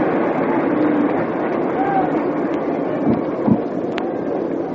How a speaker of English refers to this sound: Two up, two gone, and here's a big hand of applause starting through the stadium, which is practically packed at the moment, for Whitlow Wyatt, Brooklyn pitcher.